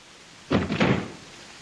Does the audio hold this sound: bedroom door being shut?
yes